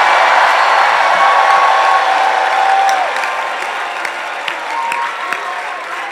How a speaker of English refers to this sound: Give the Lord a shout and a clap offering.